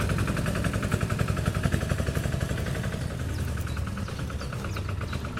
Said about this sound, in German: Ein Trecker. Trecker fahren.